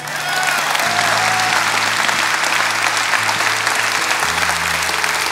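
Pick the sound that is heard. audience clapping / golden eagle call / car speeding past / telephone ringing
audience clapping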